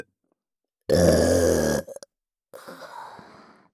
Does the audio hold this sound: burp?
yes